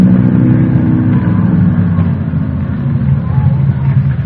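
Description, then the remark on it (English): An old jalopy's engine runs steadily with the keys in the lock, its deep rumbling drone filling the whole stretch with slight surges in pitch as it revs, and no voices over it. “Man, the engine sounds nice, doesn't it?”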